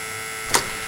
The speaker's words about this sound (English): Gary presses an apartment buzzer marked Miller.